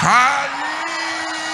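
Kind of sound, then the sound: crowd, audience shouting praise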